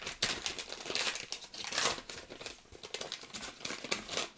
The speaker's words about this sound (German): So, jetzt mache ich den ersten Brief auf. Süßes Papier. Ist alles in Geschenkpapier verpackt.